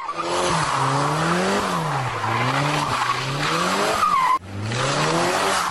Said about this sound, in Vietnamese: Ông liền phát cáo, nhấn ga, nghiến bánh xe dưới đường, nghe điếc cả tai.